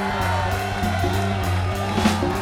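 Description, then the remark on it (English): A crowd cheers and applauds steadily for a couple of seconds as a keyboard player is introduced on stage, with scattered whoops and shouts rising over a sustained, droning musical backdrop. The noise stays full and constant throughout. “Round of applause.”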